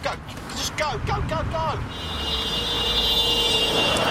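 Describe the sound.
A car on a dual carriageway runs onto the rumble strip at the side of the road, and a loud, steady low-pitched droning rumble builds and holds under the road noise. A voice cries out briefly at the start.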